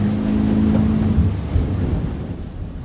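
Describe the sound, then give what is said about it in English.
A fishing charter boat from Captain Tofield Bourgeois' fleet heads out onto open water at sunrise for early morning fishing, its engine droning steadily with a low rumbling hum, splashing waves and wind buffeting the microphone; no one speaks. “Once there, the group split up amongst the many boats in Captain Tofield's fleet and headed out to the open waters just as the sun began to rise.”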